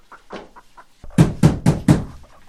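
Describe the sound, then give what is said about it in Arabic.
Four loud, evenly spaced knocks on a door ring out in quick succession, preceded by a second of faint, muffled sounds in the background. “من الطارق؟ من هذا المضطر في هذا الوقت من النهار؟ من خلف الباب؟”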